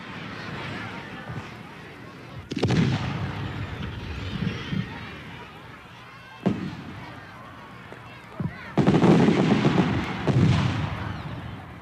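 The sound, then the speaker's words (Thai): New Year's Eve fireworks in Australia boom and crackle in several loud bursts spread across the scene, with sustained rumbling salvos near the end over a steady background of crowd noise and indistinct voices. “การไปดูการจุดพลุและการแสดงส่งท้ายปีที่ออสเตรเลียก็นับเป็นกิจกรรมที่คนส่วนใหญ่มักจะทำ”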